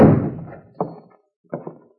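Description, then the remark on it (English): A door is shoved open with a loud thud that rings out briefly, followed by three short, softer knocking bumps, two of them in quick succession. No one speaks. “If you want in, just shove the door.”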